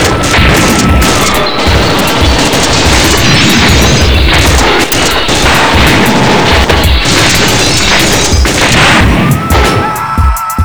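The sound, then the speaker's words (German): A loud, sustained barrage of gunfire: dense, overlapping shots and heavy booms crackle without pause for about ten seconds, with no voices. “Nach einem kurzen Moment der Stille brach ein Sturm des Feuers los.”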